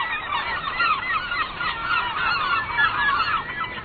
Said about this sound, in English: Ah, the sweet music of gulls. Okay, we have to admit it. For some of us, it's just hard to get excited about gulls. But in their own way, gulls are as fascinating and have as much to tell us as other birds. Take the herring gull, for example.